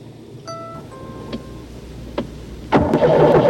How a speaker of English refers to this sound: He walks out across the Northbrook Valley Mall parking lot. The minivan still will not start.